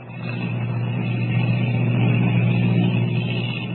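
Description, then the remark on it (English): A steady, low engine drone of an airplane in flight hums continuously at an even, fairly loud level, with a deep rumbling tone and no voices. “As the giant ship hurtles through the sky, Kent wonders what will be waiting for them.”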